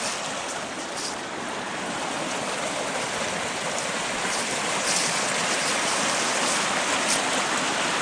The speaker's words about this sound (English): As you can see in the shade, there is ice still. The creek runs all year long. Waterfalls all down here with bridges here and there.